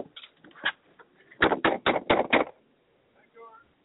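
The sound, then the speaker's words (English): A quick series of lighter taps, then five loud, sharp knocks on a door in an even rapid rhythm, followed by a brief faint voice. “Somebody okay. At the door.”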